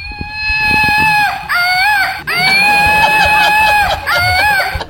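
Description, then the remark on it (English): A Woot Monkey screaming flying monkey toy from the company Woot, shot into the crowd at a show, lets out loud, shrill, wavering shrieks in several long bursts with brief breaks between them, steady harmonic squealing with no other sounds. “This company named Woot sends them to me, and I always shoot one into the crowd, and it makes this noise.”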